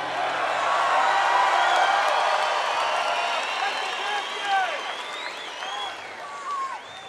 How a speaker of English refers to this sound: Are you booing because we're not going to be back for yonks, or are you going because of the way I said yonks?